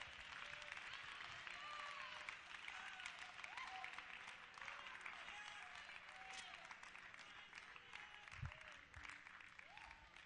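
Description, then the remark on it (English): An audience claps their hands to the Lord in praise of Jesus, steady and dense applause that fills the whole clip, with a few scattered voices and cheers rising faintly through the sustained clapping. “Clap your hands to the Lord and give Jesus praise.”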